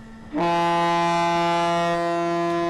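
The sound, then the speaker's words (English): A ship's horn sounds as a boat loaded with containers of fuel, shielded by heavy plates against radiation, leaves port after a customs check: one loud, deep, sustained blast that starts abruptly and holds steady over faint background hum, with no voices. “After a final check from customs authorities, the boat pulls away from the port.”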